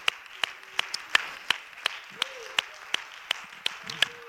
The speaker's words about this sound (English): Why don't you clap your hands to the Lord?